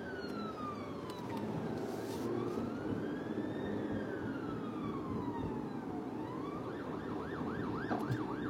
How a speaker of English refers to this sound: That is an ambulance behind us. All right, then. It turned. Okay. Crisis averted.